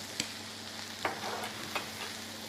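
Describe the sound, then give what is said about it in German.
Onions sizzle in a frying pan with a steady hiss, broken by three brief scrapes or clinks of stirring. A low hum runs underneath, and nobody speaks. “Ich mache es jetzt so, du brutzelst noch ein bisschen. Ich brutzel.”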